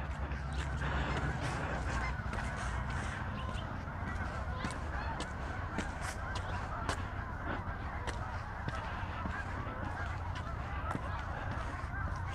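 A flock of geese honks continuously, many overlapping calls forming a dense, noisy chorus over steady low rumble, loud throughout.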